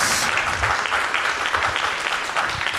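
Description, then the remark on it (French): Sustained applause from an audience for three guests at the end of an evening event, a dense, steady wash of many hands clapping at once, loud and even for the full few seconds with no talking over it. “On peut les applaudir parce qu'ils ont été brillants.”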